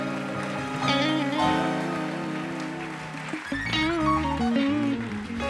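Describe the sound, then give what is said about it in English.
An audience claps their hands during a sermon in a dense, steady patter that continues under loud sustained organ-like chords and a wandering melody, with no speech. “Somebody clap your hands if you believe what I'm preaching today.”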